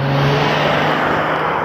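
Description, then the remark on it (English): A dark blue Dodge Ram step van making Amazon Prime deliveries drives by loud, its engine a steady, unbroken roar of road noise with a low droning hum underneath, and no voices; warm, sunny noon. “Amazon has vans. This happens to be a Ram. So a Dodge van, painted dark blue, with a big Amazon arrow pointing to Prime painted on the side.”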